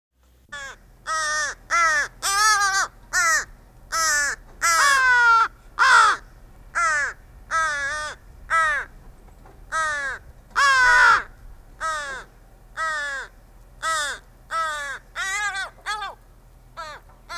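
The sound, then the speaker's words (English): A crow calls over and over while feeding another crow, around twenty harsh, nasal caws in a steady, insistent rhythm, loud with short gaps between each call. “One crow feeding another.”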